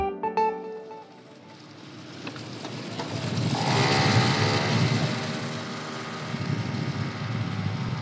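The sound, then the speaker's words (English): A small scooter engine whines and revs as a young man rides it through the streets of Beirut, its buzzing pitch climbing and easing over steady road and wind noise, fairly loud throughout. “The young man twists and turns through the streets of Beirut on his scooter.”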